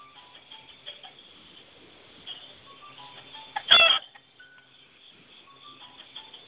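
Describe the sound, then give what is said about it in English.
Chicken clucking in short, scattered bursts, mostly soft, with one louder, sharper squawk partway through. No one speaks. “Dang, you stupid chicken, let me over there.”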